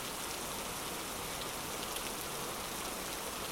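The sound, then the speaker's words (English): Steady rain pours down in a continuous hiss, with dense patter spread across the highs and no breaks or voices, sounding enveloping. “God, I hate the rain.”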